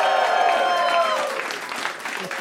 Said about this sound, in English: The glasses go up, you go clap. It's like an applause sign.